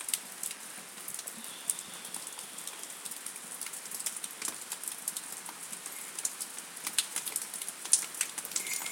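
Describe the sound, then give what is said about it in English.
Steady rain falls outside on a very wet Wednesday evening, around 8:45 PM on 18 May, after raining on and off all day, a continuous hiss with scattered sharper drips and taps landing on surfaces. It stays fairly soft and even throughout, with no voices. “It's been raining on and off, mostly on.”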